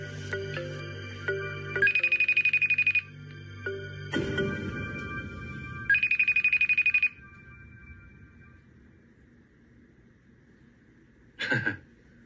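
A phone rings in repeated electronic bursts, two long trilling rings separated by a pause, followed by a short beep near the end, with no one answering.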